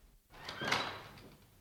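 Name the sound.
door being pushed open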